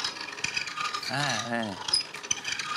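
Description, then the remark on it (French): A manual coffee grinder cranked steadily, its dense ratcheting, rasping clicks mimicking turning cogwheels, with a brief voiced sound rising and falling in the middle of the grinding. “Alors déjà, je vais prendre un moulin à café, tout simplement. Et j'imite tout ce qui est rouage avec ça.”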